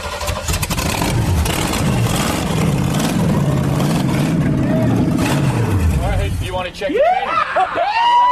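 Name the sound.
engine starting and revving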